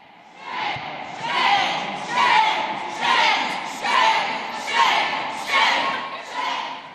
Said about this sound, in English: And as legislators left the committee room, there was a crowd outside, many of them protesters against this motion, and it got loud.